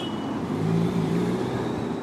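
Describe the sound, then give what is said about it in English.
Traditional motor scooters buzz through city traffic on the Champs-Élysées in Paris. A steady engine drone with a low humming pitch rises slightly midway, over a constant wash of road noise. No one speaks. “Feeling morally superior to the traditional smelly and noisy scooters zipping around me.”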